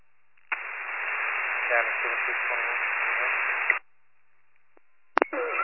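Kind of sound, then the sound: signal or alarm, two-way radio static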